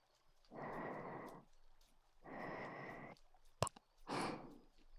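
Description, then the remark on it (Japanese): Suppressed, shallow breathing outdoors, held back to stifle moans: three short, hushed breaths spaced about a second apart, with a brief soft click just before the last one. No one speaks. “押し殺すような浅い呼吸。”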